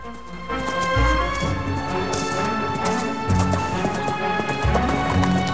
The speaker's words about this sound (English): In the distance, a horse and rider appear in view over the brow of a hill. A young woman in a resplendent purple riding outfit brings her magnificent white horse to a halt. She's closely followed by Rochester on his steed.